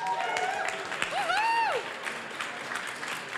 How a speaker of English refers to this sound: Come on up. Let's give him a cheer, everybody.